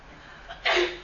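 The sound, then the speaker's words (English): A single sneeze: a short faint intake followed by a sudden loud, breathy burst that tails off quickly, with no talking around it. “bless you.”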